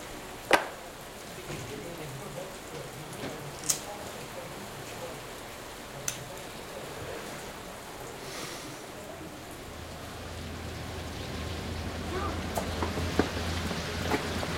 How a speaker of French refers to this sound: Il pleut. Allez, viens, on reste. C'est rien, c'est juste une averse.